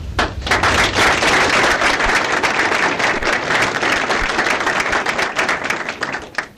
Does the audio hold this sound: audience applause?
yes